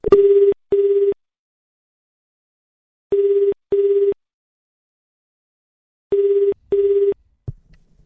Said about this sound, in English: So, we dialed the phone number, and this is what happened.